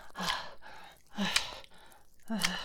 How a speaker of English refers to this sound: You like having me ride you like this? Having me panting and sweating and leaning over you?